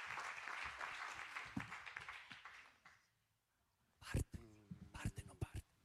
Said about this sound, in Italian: Un applauso a Michele Serra. Grazie Michele.